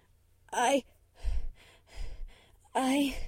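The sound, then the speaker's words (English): A female voice gasps and pants in quick, distressed breaths in a hospital bed: two strained, wavering voiced gasps bracket a few breathy, unvoiced inhales and exhales, sounding panicked and uneven. “slowly began to breathe faster than usual, her pupils dilating.”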